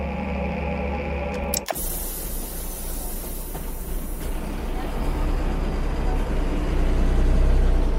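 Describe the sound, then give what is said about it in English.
Steady ambience of a bus carrying students from home to school: a continuous low engine rumble and road hiss, broken by a short clunk early on, with the drone gradually swelling louder toward the end. “Il viaggio in bus rappresenta l'incipit che si ripete all'inizio dei capitoli che compongono un romanzo.”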